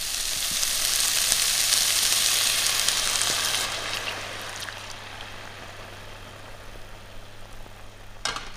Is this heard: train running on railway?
no